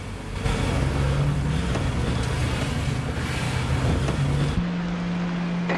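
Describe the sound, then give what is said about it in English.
Liam's car engine rumbles steadily with broad road noise as he drives past a couple on the road, then cuts to a quieter, steady low hum near the end. No voices. “Sitting in his car further up the road, Liam snaps them with his camera phone and then drives past the worried couple.”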